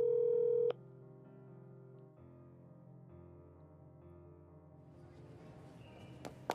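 A loud electronic telephone tone sounds briefly, then steady, droning ringback tones continue unanswered as someone phones a boy to find out where he is, with no voice picking up.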